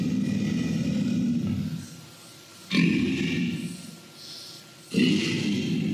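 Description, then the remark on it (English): Deep, rumbling alligator growls, very low in frequency, used as the low-frequency element of a T-Rex roar: a long one followed by two shorter bursts, each a loud, guttural low roar with rough, throaty texture and brief quieter gaps between them. “This is alligator, low frequency, really low.”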